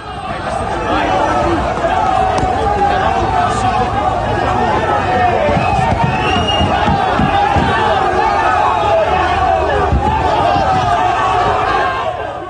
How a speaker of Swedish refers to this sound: Och det vi fick höra där var ljudet från när tränaren Ronald Koemans bil skulle lämna Camp Nou, omringades av supportrar, arga supportrar. Situationen var hetsk och hotfull och Barça har fördömt det inträffade.